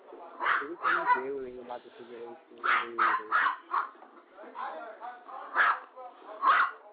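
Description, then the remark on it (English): Two pet dogs bark excitedly at another dog in quick, loud bursts of sharp, mid-pitched yaps that come in clusters with brief pauses, a voice mixed in among the noise. “Those dogs are crazy.”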